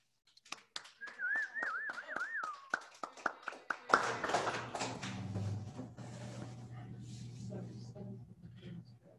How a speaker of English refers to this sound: Will all people doing service for OA at any level please stand and applaud service?